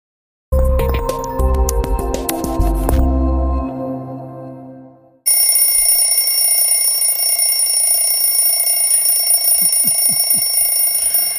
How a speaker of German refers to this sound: Ja, klingelt dein Wecker morgens auch so laut und du springst aus dem Bett voller Freude nie.